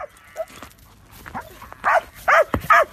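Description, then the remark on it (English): A dog barks three times in quick succession, loud, after a few softer yips and snuffling sounds at the start. “dog, Cyril, loves heading into work”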